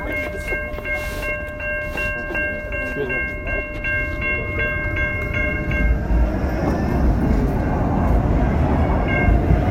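A train rolls past, its heavy rumble swelling louder through the second half, with a sustained tonal ringing and rapid repeated clanks early on.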